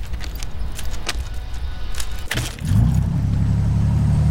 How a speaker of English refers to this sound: He slowly moves towards the bridge controls and fumbles with the keys. He fits two keys into the two locks and turns the engine on.